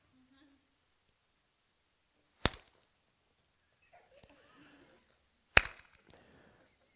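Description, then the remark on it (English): Two sharp, loud hand claps land about three seconds apart, slow and awkwardly timed, with faint murmuring voices filling the quiet gap between them, imitating the awkward clapping of a churchgoer during worship. “And when it came time to clap, this is Lloyd.”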